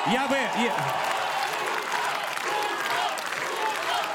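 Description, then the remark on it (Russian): A crowd shouts the name "Gudkov" together in a loud, rhythmic burst of voices at the start, then dense, steady applause and crowd noise carries on for the rest. “Кричите все вместе «Гудков», кажется, что вы кричите «Мутко».”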